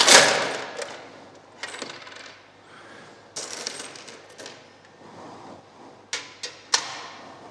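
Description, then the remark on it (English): A jumble of 63 coins of different colours, values and nationalities is emptied out of a small lidded container onto a table, a bright initial rush followed by scattered metallic clinks and a few sharp late drops, with no talking. “And out came a whole host of coins, different colours, different values, even different nationalities.”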